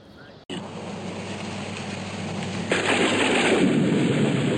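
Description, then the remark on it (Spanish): Heavy rain hisses steadily with a low thunder-like rumble underneath, starting abruptly after a brief quiet moment and swelling louder partway through. No one speaks. “Mira, ¿cómo va a llover? Bueno, querías hacer todo líquido. Ahí tenés líquido.”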